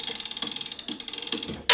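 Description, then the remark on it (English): A rapid, even ratchet clicking as the last of a clock's winding chains is pulled, roughly a dozen crisp clicks in steady rhythm, ending with a brief louder rattle. “This is the last one.”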